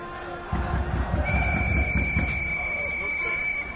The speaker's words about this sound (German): Ruhe da unten. Pfeift krass rum. Ey, der darf das. Der darf einfach krass rumpfeifen? Klar, das ist der Schiedsrichter.